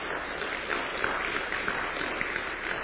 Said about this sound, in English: Just wave your hands. And their two sons with them. Yes, please give them a round of applause.